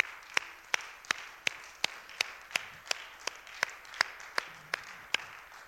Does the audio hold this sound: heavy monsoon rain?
no